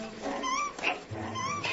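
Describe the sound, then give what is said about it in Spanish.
Prairie dogs leap and call after a fox has gone, yipping in a rapid, overlapping chorus of high, squeaky chirps, several animals sounding at once at moderate volume, with no pause between calls. “Hay saltos y gritos entre los perros de las praderas.”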